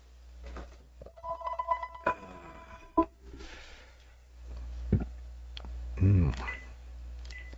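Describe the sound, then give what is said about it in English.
A telephone rings briefly with a bright electronic tone, then sharp clicks and clatter follow as the handset is lifted and handled, against a low steady hum. “There's the phone. Let me grab this.”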